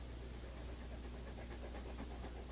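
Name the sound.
st. Bernard dog panting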